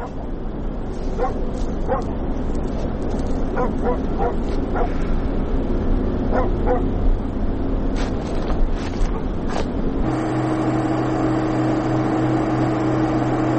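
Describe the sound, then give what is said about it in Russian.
A dog barks repeatedly in short bursts over a steady, loud engine rumble, likely from a boat or vehicle. The barking fades and the motor drone continues alone at the end. “А ну и собака.”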